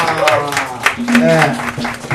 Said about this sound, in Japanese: イエー、拍手。